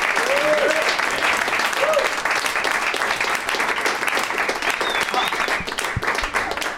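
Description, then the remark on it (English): A steady burst of audience applause for comedians Rob Hubel, Julian McCullough and Dan Telfer, dense and loud throughout, with a few brief whoops or cheers rising above the clapping near the start. “One more round of applause for Rob Hubel.”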